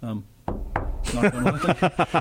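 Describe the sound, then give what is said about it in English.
Three quick, sharp knocks rap on a hard surface for luck, followed by a voice speaking. “Knock on something.”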